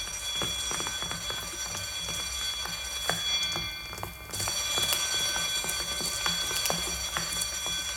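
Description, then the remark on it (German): A loud bell rings continuously with a shrill, metallic clatter, pausing briefly midway before resuming, with rattling clicks running through it. No one speaks. “Es klingelt schon.”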